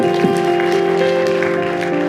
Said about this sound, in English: Amen? Amen. Hallelujah. You can clap your hands. Come on now. It's all for the Lord.